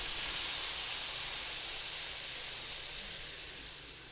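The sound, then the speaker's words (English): A steady, breathy hiss pushed out through clenched teeth, like steam escaping from a valve, made as the breathing sound for the lungs, held for several seconds and fading slightly at the end. Fairly quiet, with no talking. “And the sound for the lung is it's a little bit like steam escaping. It's teeth together, and we're just going.”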